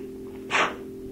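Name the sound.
sneeze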